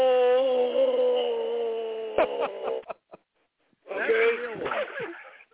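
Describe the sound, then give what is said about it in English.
A long, steady, drawn-out meow is followed by a few sharp clicks, a short silence, and then a second, wavering meow-like cry. Both sound fairly loud. “That's the real one. That's the fake cat.”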